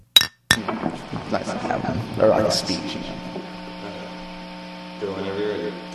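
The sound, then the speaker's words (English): Two bright glass clinks ring out in quick succession at the start, like a toast, then give way to murmured voices over a steady electrical hum. “this cheers and song is for you, our brave, valiant hero of skateboard beer bottle bowling.”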